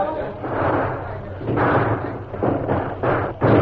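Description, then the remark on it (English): Heavy wooden fort gates being opened, a series of loud rumbling, scraping surges broken by dull thuds, ending with a heavier bang. “Open the gates and let the masked man through.”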